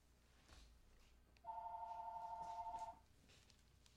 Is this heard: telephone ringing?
yes